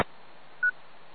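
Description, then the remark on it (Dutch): An incoming email notification, set rather loud, toots once: a single short, steady mid-pitched electronic beep rising sharply out of a faint hiss, with no one talking. “even excuses voor dat getoeter. Dan kwam er een mail binnen. En dat stond een beetje erg hard.”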